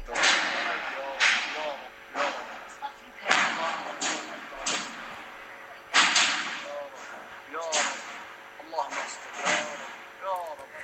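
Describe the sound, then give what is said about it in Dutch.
Gunfire from street fighting in a neighbourhood of Aleppo, recorded in the morning: loud, sharp cracks ring out irregularly, a dozen or more shots, with shouting voices heard between and under the bursts. “Van wat er aan de hand was in de wijk in Aleppo vanmorgen. Dat was namelijk dit.”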